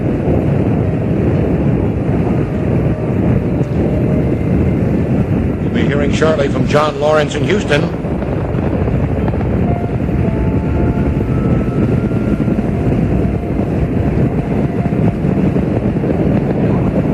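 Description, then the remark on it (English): The rocket engines of Space Shuttle Challenger roar as it launches in very cold, clear weather in Florida, all five engines burning, a loud steady rumble without letup, a man speaking over the din while a brief shrill tonal burst rises midway. “Challenger seems to shake herself free of the ice and goes. All five rocket engines burning well.”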